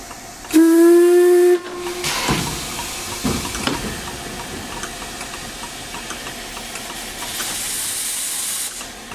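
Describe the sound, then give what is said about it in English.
A steam locomotive resting at Glenfinnan station lets out a short, loud whistle blast, then settles into a steady, broad hiss of steam venting from the funnels and round the edges, broken by a couple of heavy chuffs, with no voices. “One train's gone by, steam's coming out the funnels and round the edges.”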